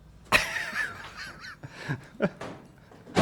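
A door being forced and broken: a loud bang, then wavering, squealing creaks and a few duller knocks, ending in another heavy crash. No one speaks.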